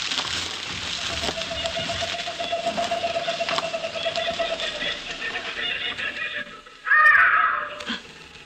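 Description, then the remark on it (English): Crows caw harshly against a steady, rustling outdoor background, with a thin drawn-out tone early on and a louder, raspier burst of calls near the end. “Those are only birds.”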